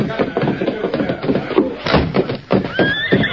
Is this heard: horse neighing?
yes